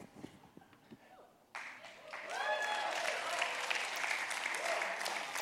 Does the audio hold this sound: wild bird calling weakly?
no